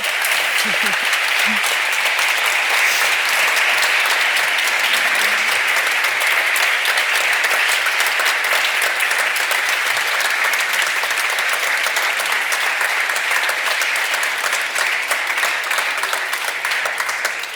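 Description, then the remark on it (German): Sustained, dense, loud applause from a large audience at a live event, applauding the host's guests, a continuous wash of many hands clapping for about seventeen seconds without letting up. “Bitte einmal einen Applaus.”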